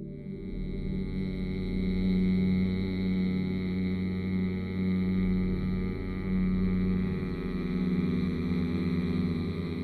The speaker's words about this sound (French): Pour le produire, vous allez inspirer à fond par le nez, puis, bouche fermée, les lèvres délicatement posées l'une sur l'autre, vous allez faire vibrer, faire bourdonner le son « mm » tout en expirant par le nez. Comme ça.